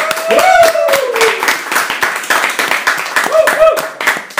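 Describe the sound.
A crowd claps steadily throughout, a dense rattling applause at full volume, with a sliding whistle near the start and short whoops or voices rising above the clapping later on.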